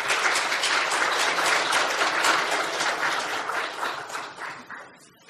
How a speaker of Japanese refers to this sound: それでは拍手を持ってお迎えしたいと思います。よろしくお願いいたします。